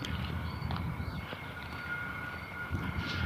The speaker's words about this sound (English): School bus, Jesus.